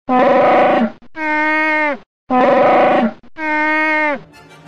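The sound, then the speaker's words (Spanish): Chewbacca's roar, made by sound designer Ben Burtt by mixing recordings of bears, walruses and lions: four loud, strongly harmonic bellows in two pairs, each alternating a rough growling cry with a smoother moaning howl that bends downward at the end. “El rugido inconfundible de Chewbacca no salió de su garganta. El diseñador de sonido Ben Burtt mezcló grabaciones de osos, morsas y leones para darle vida.”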